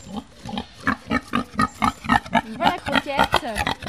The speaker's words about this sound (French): Alors juste là, il y a les deux cochons qui vivent avec les deux béliers.